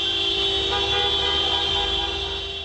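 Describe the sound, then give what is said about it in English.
Car horns blare continuously and loudly, several overlapping into a steady honking chorus over the rumble of traffic, with no one speaking, as Saakashvili supporters drive in celebration on a snowy night in Tbilisi, Georgia, waving flags in the national red and white colors. “Car drivers honked horns and waved flags bearing the country's national red and white colors.”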